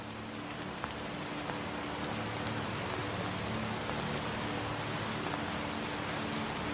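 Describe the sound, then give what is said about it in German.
Steady rain falls continuously in a forest, a soft, even hiss of drops pattering on leaves, moss and wood with occasional louder individual drips, heard alone at a moderate, unchanging level. “Der Regen spielt dazu sein Lied.”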